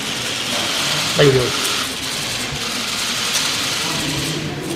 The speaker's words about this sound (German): Da war nur Fotoapparate klicken, genau, zu hören und sonst nix oder nee, ganz kurz was.